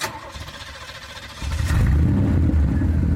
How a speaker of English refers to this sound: That was, in fact, the sound of a car starting